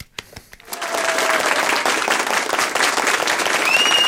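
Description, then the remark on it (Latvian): Applause inserted during editing: a few scattered claps at the start swell into sustained, dense applause from a crowd, a steady crackling wash of many hands clapping that holds loud to the end, with faint whistles near the close. “Tagad iemontēsim aplausu šajā vietā.”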